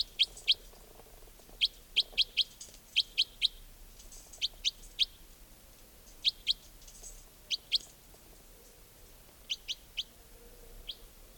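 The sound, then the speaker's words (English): Wild birds call from larch trees in short, high, bright chirps, sounding in quick pairs and clusters scattered through the stretch over a faint, steady background hiss. “I mean, they may have all taken off completely, but I've got a feeling there might be a bird or two nearby.”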